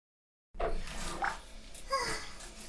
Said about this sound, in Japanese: シャワー、シャワー。